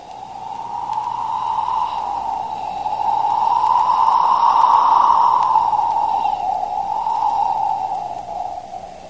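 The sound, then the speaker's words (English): A cold, humid breeze blows in off the ocean over a harbor with a hollow, breathy whoosh that swells to its strongest midway, then eases and gusts again, continuous, with no voices. “That were the breeze.”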